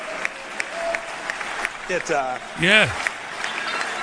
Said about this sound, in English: And the fucking rednecks at Texas A&M University just laugh and applaud when a man says to them, do you know what? We lied, cheated, and stole every chance we got.